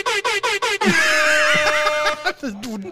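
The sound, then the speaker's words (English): A strange, warbling air horn sound effect blares, opening with a few rapid choppy honks before stretching into a long, wobbling, pitch-bending blast that sputters out. “That's the weirdest air horn.”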